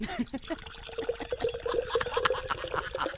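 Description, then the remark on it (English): Beer pours steadily into an official Hall of Fame beer mug, a continuous gurgling splash with fizzy bubbling that runs for a few seconds. “And so without further ado, I begin to pour.”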